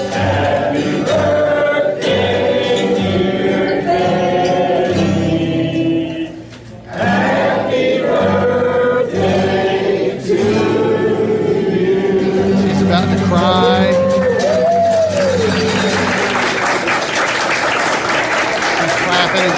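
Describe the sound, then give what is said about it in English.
A large crowd at the Loaded Goat in North Carolina sings Happy Birthday in unison to a 92-year-old woman, loud and full-bodied, with a brief dip midway, then the singing gives way to cheers and sustained applause near the end. “Crowd of the loaded goat down here in North Carolina singing to Betty.”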